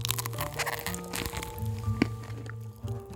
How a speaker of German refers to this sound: Und dann schneidet er eine Scheibe ab mit einem selbst mitgebrachten Messer, steckt sie in den Mund und fängt an zu kauen.